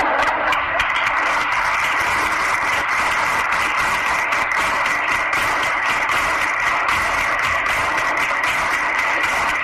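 Flamenco palmas by a group, with rhythmic hand clapping in bulería style closing an event held on a Saturday in the cloisters of Santo Domingo in Jerez, going steadily for the whole stretch, loud, dense sharp claps and no voices.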